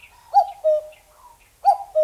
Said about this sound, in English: It was a common cuckoo, the very real version of the European and Asian bird that pops out of those old clocks.